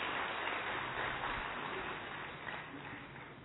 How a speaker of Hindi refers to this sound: मंचस्थ सभी शिक्षाविद, मंच के समक्ष पूरे भारतवर्ष के विश्वविद्यालय और महाविद्यालय के शिक्षावृंद, आप सबका ईश्वरीय विश्वविद्यालय माउंट आबू पर आपकी ही तालियों से जोरदार अभिनंदन एवं स्वागत है।